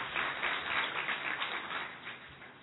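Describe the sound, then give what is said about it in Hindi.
A crowd applauds steadily for a few seconds for an IAS officer asked to stand up, many hands clapping in a dense, even patter that holds its level before easing slightly at the end. “ये देखो इन्होंने सबसे बड़ी परीक्षा पास की और आईएएस ऑफिसर बने थे, तालियां बजाओ इनके लिए जरा।”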